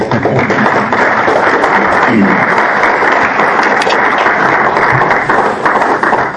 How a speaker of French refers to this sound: Oh oui, on peut applaudir.